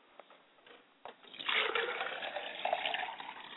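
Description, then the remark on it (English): A glass of water is poured as a libation for a father's spirit after a few small clinks, a continuous splashing stream that rises in pitch slightly as it fills, with no talking. “I like to pour a glass of water for my father's spirit first.”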